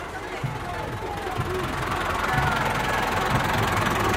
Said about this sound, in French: Et ça y est, les tracteurs démarrent.